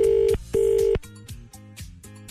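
A phone line rings out on an outgoing call, a loud double buzz of two short steady tones, followed by softer, quieter tonal sounds with no one answering.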